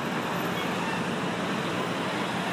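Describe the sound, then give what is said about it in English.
Steady, dense road traffic rumbles and hisses continuously, a wash of car and heavy-vehicle engine noise with no distinct pauses and no voices, as jammed traffic detours around a burst water main. “When you pull one, everything just jams up.”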